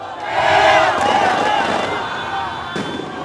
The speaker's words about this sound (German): Jubel, Feuerwerk, Freuden, Tränen bei Lulas Anhängern auf der Avenida Paulista in São Paulo. Als das offizielle Ergebnis kurz vor 20 Uhr abends endlich feststeht, gibt es kein Halten mehr.